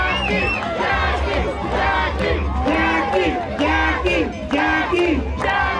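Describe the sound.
A loud crowd at a jalapeño-eating contest cheers and shouts continuously, many overlapping voices rising in excited, pitched bursts over a steady low rumble of noise throughout.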